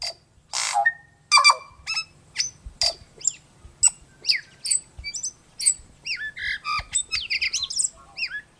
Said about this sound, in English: But the tui is best known for its voice. Each tui's complex song is slightly different, a colorful mix of musical notes and offbeat sounds.